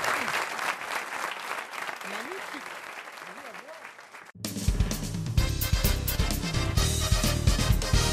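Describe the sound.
An audience claps steadily in a dense wash of applause with scattered cheering voices after a singer's song performance, then the sound cuts abruptly to a louder burst of clapping over a low, booming rumble.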